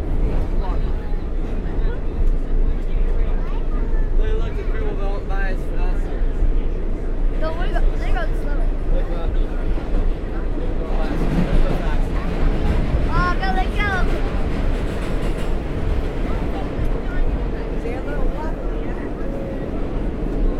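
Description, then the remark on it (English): A New York City subway train rumbles along loudly and steadily from inside the car, with brief high-pitched squeals partway through and faint voices mixed into the roar. “Here we go on the subway.”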